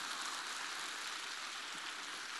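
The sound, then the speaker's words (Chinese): Thin, scattered clapping from a crowd, a soft steady patter much like light drizzle, holding at an even low level throughout with no voices. “听刚刚的，我刚刚听了你们的掌声，怎么像毛毛雨？”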